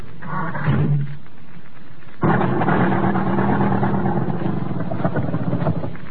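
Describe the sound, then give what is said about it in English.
The starter of an American car grinds briefly, then the engine catches abruptly and runs with a loud, steady, rough rumble until the end. No one speaks. “Try the starter.”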